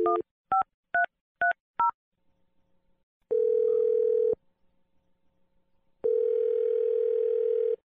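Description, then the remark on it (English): Five quick touch-tone beeps as a phone number is dialed by a morning radio show host, followed by two long, steady ringback tones separated by a pause, clear with no voices. “Okay, I'm gonna dial the phone number right now.”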